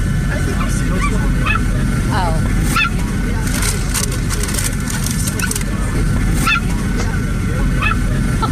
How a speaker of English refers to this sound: Yes, and there was this stupid dog yapping.